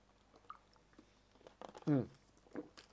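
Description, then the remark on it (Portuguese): Someone takes a sip of water, with soft wet mouth clicks followed by one louder, brief gulping swallow, then quiet lip sounds. “Eu tenho até que beber um gole d'água.”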